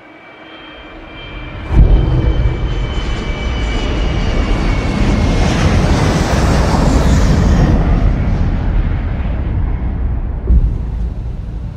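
A loud, steady roar of the jet engines of US Airways Flight 1549 in flight in 2009, from the flight's cockpit voice recording, fills the whole recording, swelling abruptly early on and holding a dense, rumbling drone, with a brief thump near the end.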